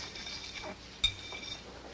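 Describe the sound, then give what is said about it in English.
Dishes being washed: one sharp, ringing clink of crockery stands out midway over a steady, soft wash of background noise, with no voices. “Jeff, where are the rest of those dishes?”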